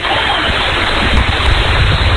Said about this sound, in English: All right, folks. Rain coming down pretty hard right now.